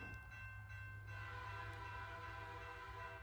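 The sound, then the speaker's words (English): A train rumbles steadily along the tracks while a long, sustained horn blares over the rolling noise, loud throughout the short stretch. “Get on this train, let's ride.”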